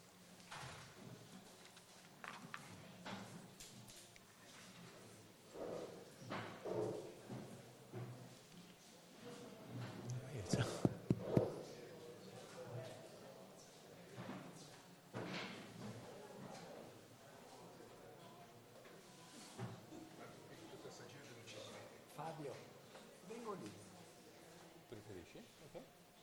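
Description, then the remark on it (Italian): Doors shut with a few loud thuds and clatters near the middle, over a steady murmur of people talking and moving around at the opening of a film festival. “chiudiamo magari le porte, così l'aria condizionata si ferma.”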